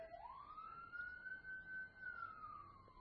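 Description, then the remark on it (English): A single emergency siren wails in one long rising and falling sweep over a low background rumble, with no talking. “Heavenly Father, we pray for wherever that siren's going.”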